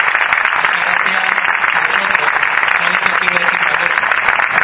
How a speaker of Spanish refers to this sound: Pues muchísimas gracias por estar esta noche con nosotros. Un fuerte aplauso para cada uno.